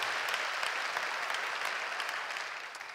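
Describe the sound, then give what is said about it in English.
An audience breaks into steady applause for the young people who watch the sermons from a juvenile detention facility, a dense wash of many hands clapping at once that holds its level for the whole span and eases off slightly at the very end. “And also, would you let the young people who watch these sermons from time to time at the juvenile detention facility, would you let them know that we are praying for them as well, just by your way of applause there?”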